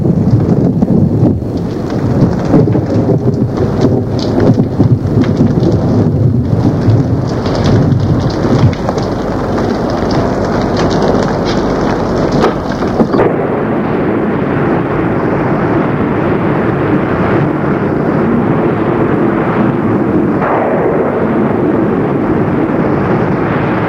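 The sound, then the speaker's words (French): Heavy, cold rain pours steadily in a strong thunderstorm over forest and hills, a dense, loud hiss with a deep rumbling undertone that continues throughout, with no voices. “L'orage était si fort qu'au bout de quelques minutes, elle était trempée et frissonnait de froid.”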